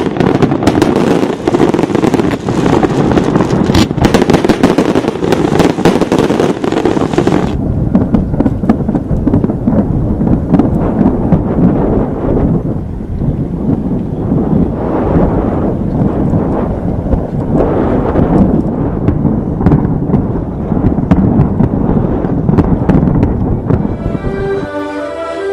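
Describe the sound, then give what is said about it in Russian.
A huge fireworks display over Dubai, United Arab Emirates, roars nonstop, with dense overlapping booms and crackling bursts blending into a loud, continuous rumble that eases slightly midway before flaring again, with no voices. It is a record attempt of 400,000 shots in total. “Поистине зрелищный фейерверк озарил небо в Дубае, крупнейшем городе Объединенных Арабских Эмиратов.”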